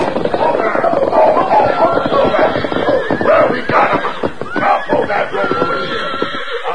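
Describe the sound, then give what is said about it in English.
A herd of unbroken horses gallops in a dense, continuous drumming of hooves, with neighs and whinnies rising over it while riders shout loudly throughout, cutting back and forth to drive the horses in a close pack toward a corral during a horse hunt. “rode hard, shouting at the top of their voices, cutting back and forth to keep the horses in a close pack.”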